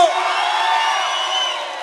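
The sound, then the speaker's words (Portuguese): A crowd of Pernambuco fans cheers and whoops when called out, a steady, loud roar of many overlapping voices with high-pitched shouts layered on top, holding for under two seconds before easing slightly. “Cadê a torcida do Pernambuco?”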